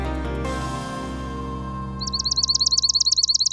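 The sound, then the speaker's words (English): A swamp sparrow sings a steady, rapid trill of about fifteen identical repeated notes, clear, following a few fading musical tones that taper away before the bird begins. “A thousand years ago, inhabitants of eastern North America might have heard swamp sparrows singing a song just like this, according to a study in Nature Communications.”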